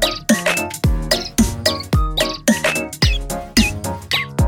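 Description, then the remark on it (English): Bright, squeaky canary-like chirps and tweets repeat over a steady thumping beat, with a deep kick landing about twice per second beneath the bird song. “Canary skip beats 2-4.”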